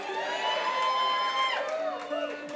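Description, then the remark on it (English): An audience cheers and applauds for a mandolin, with many voices whooping and calling out together in a loud, sustained burst that holds steady for a couple of seconds. “they're applauding just for the instrument.”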